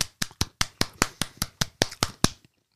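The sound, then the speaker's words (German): One person applauds themselves for ten weeks without smoking, clapping for about two and a half seconds: roughly a dozen sharp, crisp claps in a quick, steady rhythm, then silence. No one speaks. “Wo bleibt der Applaus?”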